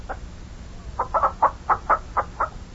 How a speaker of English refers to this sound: Had the fields plowed, planted some crops, stocked up the farm with livestock and chickens. Got chickens all over the place here.